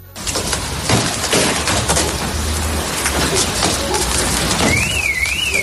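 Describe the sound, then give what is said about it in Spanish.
Heavy hail, with hailstones over 10 centimetres in diameter, tennis-ball size or larger, pounds down during a storm in La Bisbal d'Empordà, Girona, Catalonia, in a dense, relentless clatter of sharp loud impacts, with a siren wailing faintly near the end. “Fueron 10 largos minutos de lo que casi sonaba y parecía pues un bombardeo con proyectiles de hielo de más de 10 centímetros de diámetro.”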